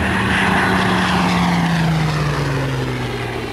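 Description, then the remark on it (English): The Fortress propeller bomber Bob McGee buzzes low over an airfield past the control tower, its loud, steady engine roar and droning hum sliding gradually downward in pitch as it passes, with no voices. “"Another one coming in to buzz the field, gentlemen," called out the officer from the control tower.”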